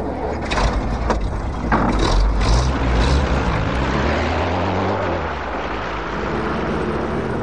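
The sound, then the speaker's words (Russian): A vehicle engine rumbles steadily with a low droning hum that shifts in pitch as it pulls away out of a side lane onto a highway, with a few clunks and rattles early on and no talking. “Когда Хижняк проулком выехал на шоссе, ЗИС, на который сели двое офицеров, уже скрылся из виду.”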